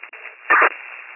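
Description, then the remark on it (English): Steady radio static with a thin, band-limited hiss, jumping to a loud crackling burst for a moment midway before settling back to the same low hiss. No voices are heard. “7312, 7312 static.”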